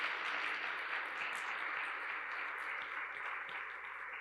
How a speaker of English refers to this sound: There's some teachers here. Let's give these guys a round of applause.